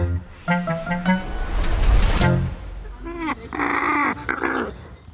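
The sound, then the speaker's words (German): A female raven named Penny, begging for food in her large walk-in aviary, screams loudly in harsh, raspy bursts: a few short croaks first, then a longer, strained, wavering shriek that fills the second half. “Warum schreit die immer so und macht den Schnabel auf?”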